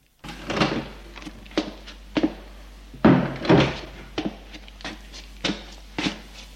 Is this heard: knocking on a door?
yes